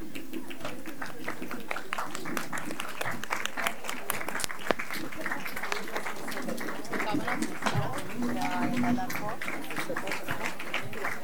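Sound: applause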